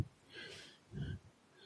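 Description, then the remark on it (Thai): A single deep breath drawn in through the nose during a guided mindfulness exercise, airy with a soft rushing hiss that swells and then fades, heard alone without any talking. “อย่าให้ตั้งอกตั้งใจนะหายใจเข้า”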